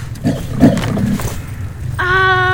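A lion roars in rough, rumbling bursts, then a steady high, buzzing tone takes over and holds to the end.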